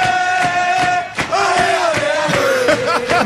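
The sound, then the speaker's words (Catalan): Fifty or sixty young fans at five big tables in an Irish pub in the centre of Eindhoven celebrate Barça's title loudly, many voices chanting and shouting together in a sustained, sung rhythm, with sharp bursts of yelling cutting through the steady roar. “I hi ha una cinquantena, una seixantena de joves que ocupen cinc taules ben grosses celebrant el títol del Barça aquesta tarda a Eindhoven.”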